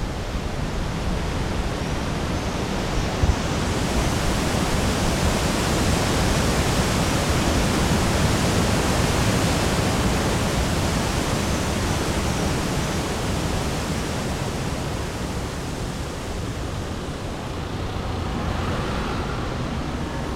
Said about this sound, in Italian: Giro l'angolo e potente come non mai incontro l'Arno. Non è in piena, eppure mi investe come se lo fosse. Chiudo gli occhi e il fiume è tutto quello che posso sentire.